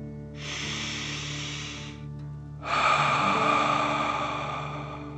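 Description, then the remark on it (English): A deep breath drawn in steadily through the nose for about two seconds, a brief pause, then a stronger, forceful exhale that is louder and gradually fades; clear with no talking. Part of a guided deep-breathing exercise. “Remember to breathe in through your nose, filling up your belly, and then out, pretending you are breathing fire.”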